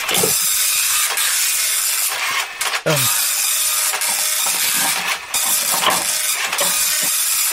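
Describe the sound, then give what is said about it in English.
A slow printer runs steadily, a loud continuous hissing whir broken by occasional soft clicks and a brief rising squeak partway through. Nobody speaks. “Pretty slow printer, Rob, I'm sorry.”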